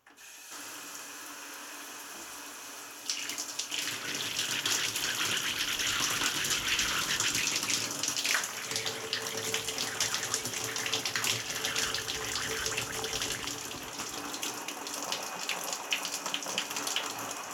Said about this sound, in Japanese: あ、そうだ、先生にはいっぱいお世話になったので、それじゃあ泡を流していくので、また目をつむってくださいね。